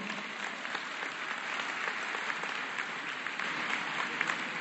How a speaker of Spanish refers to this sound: Le pido ese aplauso, por favor.